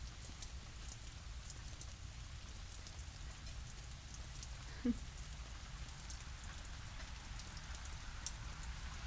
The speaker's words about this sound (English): Well, yeah, I know having the window open doesn't help, but then you can hear the rain better.